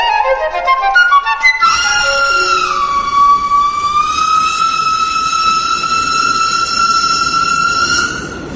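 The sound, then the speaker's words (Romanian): A train arrives at a station, its loud whistle holding a long, steady blast over a constant rumble of rolling noise, with no voices present. “Când sosi trenul, apostol dădu mâna cu Vidor și apoi cu fata.”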